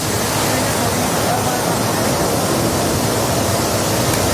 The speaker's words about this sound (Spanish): Hoy vivimos un día de tregua con menos lluvia generalizada, pero en el embalse de Tentudía, en Badajoz, se han abierto las compuertas para vaciar agua por primera vez desde 2014, hace 11 años. Tentudía está al 100% de su capacidad.